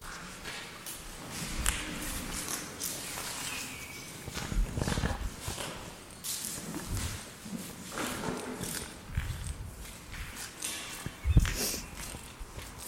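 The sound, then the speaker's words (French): Irregular footsteps of people walking through an immense space crunch and scrape over waste on the ground in uneven bursts, with a few louder thuds, while faint birds chirp intermittently. “On commence à se balader dans cet espace immense, et le bruit de nos pas sur les déchets au sol, mêlé au bruit que font les oiseaux en gazouillant, donne à ce lieu une nouvelle vie, bien différente de la précédente.”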